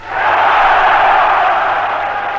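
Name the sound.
rally crowd cheering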